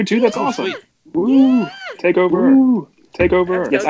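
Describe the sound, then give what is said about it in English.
A cat meows several times, each call drawn out and wavering in pitch, with short pauses between the loud, nasal cries. “And hi, your cat.”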